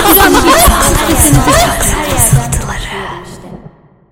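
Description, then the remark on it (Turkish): A dense wash of overlapping voices drenched in a heavy reverb effect applied across the whole recording, the sounds smearing into one another, then a long echoing tail that fades out over the final second. “ortayı böyle bir yankılatmış, tekrarlatmış gibi duruyor ama neden öyle? Yo, her yeri yankılattı aslında.”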